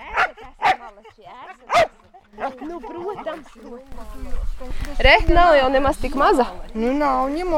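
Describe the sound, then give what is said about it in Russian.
Tofi, a Welsh springer spaniel trained to find underground fungi, gives three sharp, loud triumphant barks after finding the first truffles, followed by a person speaking steadily over faint background noise. “После изучения территории раздается победный лай Тофи.”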